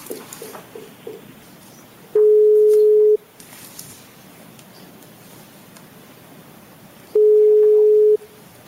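telephone ringing tone

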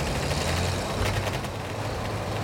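riding

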